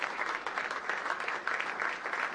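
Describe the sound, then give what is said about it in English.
A crowd at a health care signing event applauds steadily, a dense wash of many hands clapping at an even, moderate loudness without pause and with no voices standing out. “He loves it when they clap for him.”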